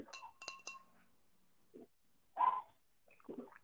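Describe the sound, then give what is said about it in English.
Glasses of water clink together in a toast during a water tasting: three bright, ringing taps in quick succession, followed by a few soft, brief vocal sounds. “So, well, cheers”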